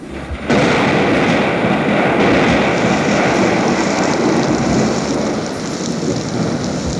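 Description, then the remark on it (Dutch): Steady rain patters and taps on an attic window in a dense, continuous wash that begins abruptly after a brief quiet moment and keeps up at an even level, with no voices. “Zachtjes stikt de regen op mijn zolderraam.”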